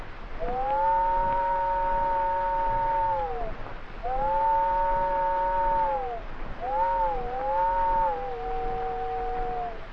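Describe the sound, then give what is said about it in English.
A voice imitates an old train whistle heard about a quarter mile down the track: three long, steady two-tone wails at a fairly high pitch, each sagging slightly at the end. The last is broken into shorter pieces. No one speaks. “I got down there just in time to hear the old whistle about a quarter mile down the track. Something like this.”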